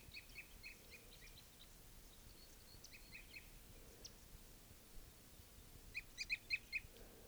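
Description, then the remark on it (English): A male bird's flight song, with a couple of other birds following it: short, high, repeated chirping phrases rising over a steady low rumble of background noise, growing louder toward the end. “Flight song by a male. A couple others are following.”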